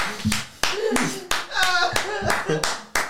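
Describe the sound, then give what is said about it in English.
Audience applause with sharp, fairly regular loud claps ringing out, while a man's voice talks over the clapping throughout. “You're a very good crowd. A loud crowd's a good crowd.”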